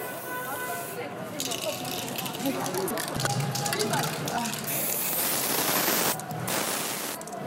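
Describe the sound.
A spray paint can hisses in bursts against a wall, with a brief rattle between sprays, over a steady bed of outdoor street noise and faint background voices.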